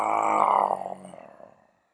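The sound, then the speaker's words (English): A single loud, drawn-out vocal roar from one person imitating a lion on an out-breath to release anger, strong at first, then fading into a rough, breathy trail before silence. “So breathing in deeply, and as you breathe out, you roar like a lion, getting rid of the anger.”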